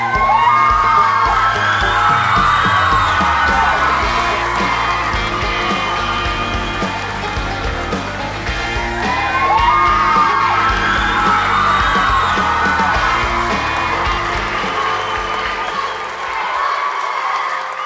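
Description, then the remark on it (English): A large crowd cheers, screams and whoops wildly and continuously, loud, with a bouncy, thumping beat pulsing underneath the roar, as a performer on stage does a hip-shaking, bouncy dance number to a country hip-hop mashup. “Kayla with the Crystals does a hip-shaking, bouncy number to a country hip-hop mashup, and the crowd goes wild”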